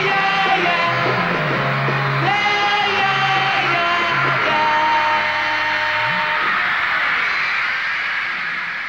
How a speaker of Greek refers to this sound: Οι ακραίες εκδηλώσεις λατρείας από το κοινό ήταν συχνά ανεξέλεγκτες. Σε πολλές συναυλίες οι φωνές των οπαδών ήταν τόσο δυνατές που κάλυπταν τη μουσική.